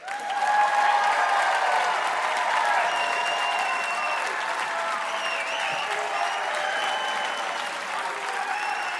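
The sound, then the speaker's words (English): A large audience at the Fitzgerald Theater claps loudly and continuously to vote, with scattered whoops and cheers rising above the steady wash of applause throughout. “We have a pretty smart crowd here at the Fitzgerald Theater, so we're going to do it by your applause and cheers.”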